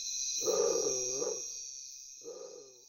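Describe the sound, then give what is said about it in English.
A bird with tiger-striped plumage gives two deep, growling, cat-like calls, one long and a shorter one after a pause, over a steady high insect-like hiss in the background. “Undoubtedly, the name was derived from the plumage having a tiger-striped pattern, but the moment you hear its voice, you can't help think of a large cat.”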